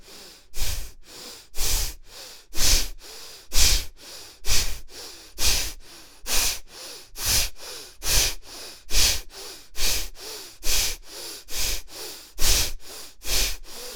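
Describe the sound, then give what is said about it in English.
Forceful, rhythmic breathing during a breathing exercise, around twenty loud, airy breaths in steady succession, each exhalation pushed out hard using the whole body. No one speaks. “Use your whole body. Concentrate on the exhalation.”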